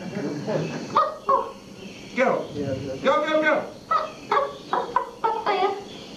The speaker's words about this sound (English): This must be her ladyship's Labrador.